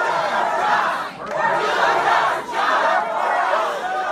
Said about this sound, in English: This was what crowds in rural Iowa sounded like at a town hall for Iowa Republican Governor Joni Ernst.